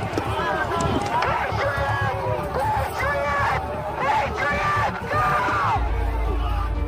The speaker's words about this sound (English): and waves the crowd onto the west lawn of the Capitol, while members in the crowd shout at him. With this view, you can see the moment that the first set of bike racks come down and the crowd begins to quickly advance on the second set of gates.